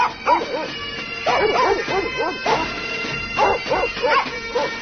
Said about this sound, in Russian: Щенок заскулил жалобно-жалобно. Значит, он был жив.